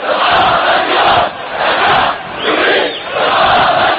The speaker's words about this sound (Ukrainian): У неділю в Наві пройшли похорони протестувальників, вбитих силами безпеки, на яких люди вигукували антиурядові гасла.